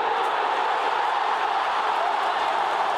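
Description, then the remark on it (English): A huge stadium crowd roars in celebration of Lance Franklin's 1,000th goal, a dense, unbroken wall of cheering that holds steady and loud for the full few seconds, with no single voice standing out. “The crowd come from everywhere to salute a champion.”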